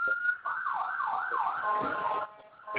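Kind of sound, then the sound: vehicle, ambulance siren passing outside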